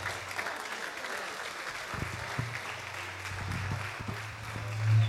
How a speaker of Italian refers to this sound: Accogliamole con un bel applauso la proprietà di Radio Studio Nord,